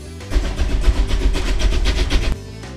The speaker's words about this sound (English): There's your pride and joy just coming off the turntable. Yes, sir, the old express.